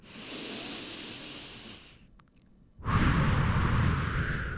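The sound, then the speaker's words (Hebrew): A long, deep breath drawn in through the mouth, a brief pause, then a louder, airy exhale pushed out. Isolated, with no talking. “אז בואו ניקח נשימה עמוקה פנימה.”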